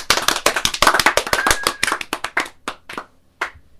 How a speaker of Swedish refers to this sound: Det var ett bra förslag. Kan vi inte få en liten applåd för det?